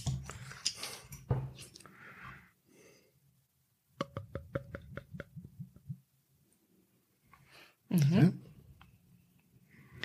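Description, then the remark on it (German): Crinkling and rustling of paper being unwrapped from a bottle of bottle-fermented beer, followed by a quick run of rhythmic clicks and a louder burst as the bottle is opened, with a brief murmured voice. “Die Flaschen sind alle in so einem Papier eingewickelt. Das macht das Öffnen ein wenig schwieriger.”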